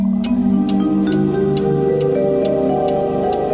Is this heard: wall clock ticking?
yes